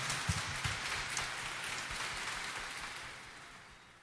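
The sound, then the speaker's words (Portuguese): A crowd claps together in a dense, steady wash of applause with no voices, holding at a moderate level for a few seconds before softening slightly at the end, as the audience welcomes one another at the start of a Holy Mass. “Vamos nos acolher com as nossas palmas.”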